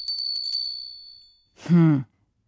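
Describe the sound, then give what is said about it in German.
A small bell rings with a quick, shimmering jingle for about a second, then fades out; after a brief pause, a short voiced hum or vocal sound follows. “Noch süßer kann ich nicht klingeln.”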